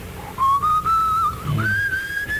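A clear whistled melody of a few long, sustained notes that slide and step upward, whistled by a person alone as the opening of a song, without voices, at a steady, fairly loud level.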